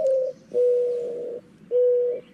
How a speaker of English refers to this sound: Okay? So, for instance, you mentioned the Mourning Dove.